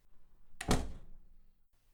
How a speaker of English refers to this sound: close the door for them.